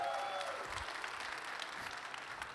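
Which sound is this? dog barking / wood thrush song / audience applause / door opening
audience applause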